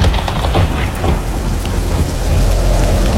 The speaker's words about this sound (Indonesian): Nah, malah geluduknya mulai datang toh. Wah, ini pasti hujan lebat ini.